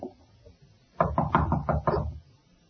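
A quick run of five or six firm knocks on the door of Punchy's room at the end of a hall, in a Batman and Robin drama, evenly spaced and fairly loud, with no voices, followed by silence.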